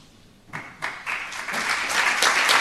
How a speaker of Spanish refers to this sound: Pues el aplauso también para estos cuatro premiados también, con estos premios extraordinarios de titulación 2020, que bueno, son de diferentes titulaciones que se cursan aquí en la Universidad Miguel Hernández, con los mejores expedientes